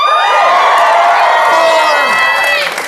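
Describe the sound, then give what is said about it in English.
A live crowd at Largo at the Coronet in Los Angeles cheers loudly and steadily, a dense wash of whoops and shouts with rising pitch swoops, sustained throughout before easing slightly at the end. “We are live at Largo at the Coronet in Los Angeles, our LA-based home, with an amazing crowd.”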